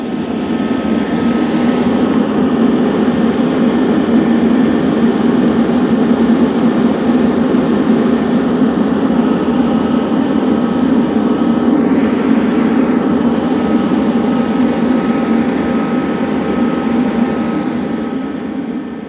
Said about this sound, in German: Und dieses Geräusch war nicht nur irgendeine Klimaanlage, sondern in der Nähe von Stadtwehlen, nämlich genau dem Ort, wo Carsten Bauch groß geworden ist. Udo Noll war offensichtlich auch in der Gegend, hat diese Aufnahme gemacht an einer Berghütte